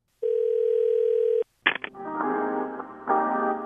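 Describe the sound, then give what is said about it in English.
A steady telephone dial tone hums for about a second, then cuts off; after a brief click, tinny hold music begins and plays on continuously, sounding thin and compressed as if heard through a phone line. “And finally, let me make a quick phone call.”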